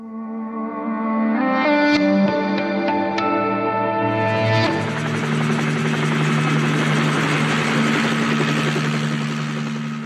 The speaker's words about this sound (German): Vor ein paar Wochen sitzt Kilian im Rettungshelikopter.